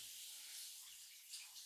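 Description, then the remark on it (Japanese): A steady, soft hiss of running water, like a shower spray rinsing off soap foam, continuing evenly throughout with slight swells and no voices. “泡もきれいに洗い流して。”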